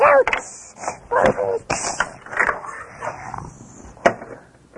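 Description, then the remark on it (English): A puppy yips and barks in a series of short, high-pitched bursts, with people talking over and between the yelps. “Oh, it's a puppy.”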